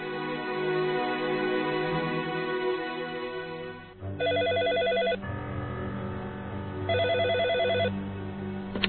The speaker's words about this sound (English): In his suite at the Algonquin, Blake is sitting on the couch when he hears the phone ring.